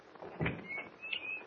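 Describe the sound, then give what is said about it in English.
A door to a basement laboratory opens with a soft thud followed by a drawn-out, high-pitched creaking of hinges, moderately loud, with no voices. “I think this is the door.”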